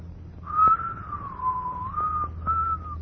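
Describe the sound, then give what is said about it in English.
A person whistles a short, wavering tune, the pure tone gliding up and down in a few connected phrases over a faint low background hum. “I know you're an orphan and you haven't had much bringing up, but you could make a man of yourself if you'd stop whistling and dreaming all the time.”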